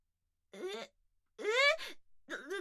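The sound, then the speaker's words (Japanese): A person cries in three broken, wavering sobs separated by short pauses, each breathy wail rising and falling in pitch, with no speech. “どうして泣いてるんですか。”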